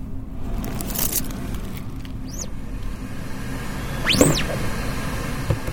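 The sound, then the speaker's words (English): Ventilation fans drone steadily in the printing area at Oxford Brookes, a constant low hum with broad airy noise, while a few brief squeaks and scraping sounds rise briefly over it. No one speaks. “The printing area at Oxford Brookes is full of ventilation fans which drone in the background at all times.”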